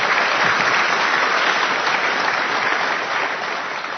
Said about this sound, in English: So please give them another round of applause just as they are.